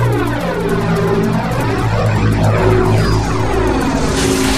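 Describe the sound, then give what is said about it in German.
A loud, continuous engine drone of an approaching gunboat, with throbbing low harmonics and a sweeping, shifting pitch as it nears. No voices are heard over the steady roar. “Meister, ich höre etwas. Das ist das Kanonenboot.”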